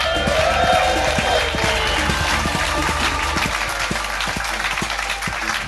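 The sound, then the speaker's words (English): An audience at the Leicester Square Theatre applauds steadily as comedian Richard Herring is welcomed on stage, a dense wash of many hands clapping at a fairly loud, even level that slowly eases off, with a few sharper individual claps poking through. “Exactly, that was exactly, just not quite loud enough clapping for my like.”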